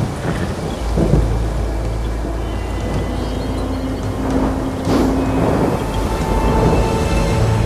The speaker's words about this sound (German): der längst den aufziehenden Sturm wittert